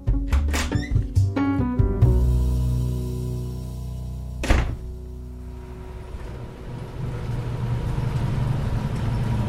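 A bus pulls up with a few squeaky brake and door noises, then a single solid thunk as the door shuts, followed by a low engine rumble idling steadily.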